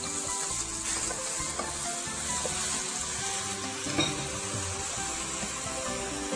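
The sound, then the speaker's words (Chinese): Ordinary home-style tofu, not the soft kind, sizzles steadily as it pan-fries in a little oil, a continuous crackling hiss that stays even throughout, with a faint clink of a utensil partway through and no one talking. “好，所以我们基本上呢，我们在煎豆腐的时候呢，千万不要放太多的油哈”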